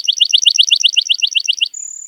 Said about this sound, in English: This is Bird Note. Lark bunting.